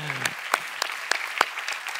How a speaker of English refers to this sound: Let's give God a big hand. Hallelujah.